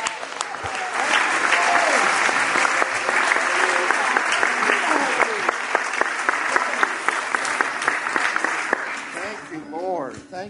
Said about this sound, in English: Let's give them a big hand. Let's give that hand clap of praise to Jesus.